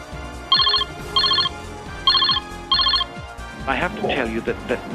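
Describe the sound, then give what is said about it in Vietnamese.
A telephone rings four times in short, evenly spaced, clear bursts before a voice begins speaking over a low background. “Charles Ingram nhận được một cuộc gọi điện thoại bất ngờ”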